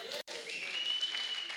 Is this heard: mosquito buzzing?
no